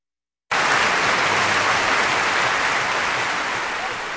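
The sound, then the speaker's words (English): Sustained audience applause after the Berlin Philharmonic Orchestra, conducted by Seiji Ozawa with pianist Arkady Volodos, performs Tchaikovsky's Piano Concerto No. 1 in B flat minor: a dense, steady wash of many hands clapping that starts abruptly and holds loud throughout, easing only slightly at the end. “That applause for the Berlin Philharmonic Orchestra and conductor Seiji Ozawa, along with pianist Arkady Volodos, playing Tchaikovsky's first piano concerto in B flat minor on Kansas Public Radio”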